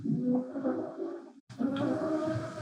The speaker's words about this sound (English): going to be able to hear in the background Squeezle the dog snoring. I can hear it. It's pretty cute. Maybe that makes up for the noise of it.